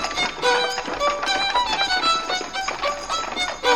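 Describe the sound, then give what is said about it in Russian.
Rapid galloping hoofbeats of a troika of three horses drum along steadily, mixed with a bright, ringing tonal layer that carries through the whole stretch. “Посадили графа с невестой на тройку лошадей, понеслась она вперед.”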